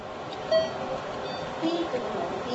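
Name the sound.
beep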